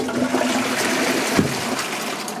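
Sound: toilet flushing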